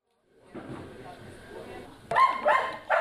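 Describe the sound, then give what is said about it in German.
Kössi, an excited sniffer dog trained to detect Covid-19, barks in sharp bursts, with three loud yaps near the end, after a stretch of lower whining and rumbling inside the Helsinki Airport building. “Kössi ist ganz schön aufgeregt. Er merkt natürlich, dass sich alles um ihn und um seine Mitnasen dreht im Flughafengebäude.”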